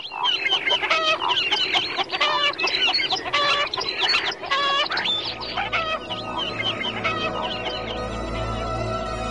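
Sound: hen clucking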